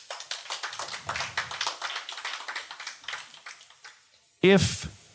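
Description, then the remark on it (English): An audience claps in a dense, steady patter that slowly fades over several seconds before a man's voice cuts in loudly at the very end. “Round of applause, who has a little brother?”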